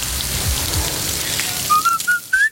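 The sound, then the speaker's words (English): Beef burger patties, made to order from whole cuts of beef from farms across Britain and Ireland and seasoned only with salt and pepper, sizzle on a grill with a steady, crackling hiss, joined near the end by a few short, high whistling tones that step upward in pitch. “That sizzle speaks louder than words.”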